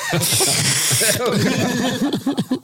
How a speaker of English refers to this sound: A slurping sound with your nose? It's gotta be wet.